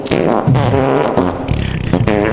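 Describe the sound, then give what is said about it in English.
A loud, buzzy run of fart sound effects, several blasts following one another in quick succession over about two seconds, with no talking. “I don't hear a lot of fart sounds.”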